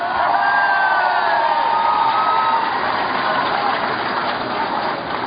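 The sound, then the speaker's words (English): A large crowd in Michigan cheers and applauds for Senator Carl Levin in a steady, loud wash of noise, with scattered whoops and high shouts rising above it for several seconds, easing slightly toward the end. “Give it up for Carl Levin.”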